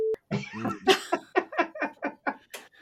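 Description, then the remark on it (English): A short, steady mid-pitched censor beep cuts in at the start, then a run of rhythmic, breathy laughter bursts follows, gradually tapering off. “and I will forever beep it out.”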